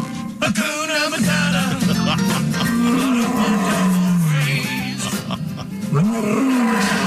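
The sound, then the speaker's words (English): Lions roar and snarl during an attack in a loud, nearly unbroken stretch, deep rumbling growls rising and falling in pitch, several overlapping, with a harsh, raspy edge throughout. “And now you can picture exactly what happens when lions attack poachers.”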